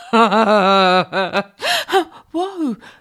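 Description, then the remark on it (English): Panicked, rapid breathing: a long quavering voiced gasp followed by several shorter, sharp, strained gasps in quick succession, loud and whimpering in tone. “You're breathing super quick. Are you having a panic attack?”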